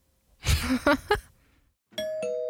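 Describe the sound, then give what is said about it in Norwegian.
A two-note ding-dong doorbell chime rings out clearly after a short pause, following a few brief, rough bursts of noise at the start. “Ikke løp til døra. Det ringte ikke på.”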